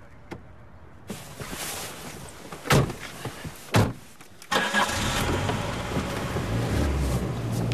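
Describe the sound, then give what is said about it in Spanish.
Two sharp car door slams ring out, then an engine starts and the car drives off carrying passengers, its steady rumble and road noise continuing to the end. “Más tarde, José se los lleva en su coche.”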